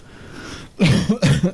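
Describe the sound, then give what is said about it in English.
After a brief hush, someone with a lingering cold breaks into a loud, harsh fit of coughing: three or four rough hacks in quick succession, with no talking. “apologies for the coughing tonight.”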